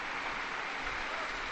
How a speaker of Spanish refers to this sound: Queridos hermanos y hermanas, hemos apenas celebrado la liturgia con ocasión de la primera Jornada Mundial de los Abuelos y de los Mayores. Un aplauso para todos los abuelos, a todos ellos.